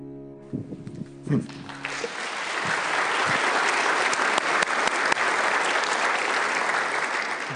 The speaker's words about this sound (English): Part of that applause goes to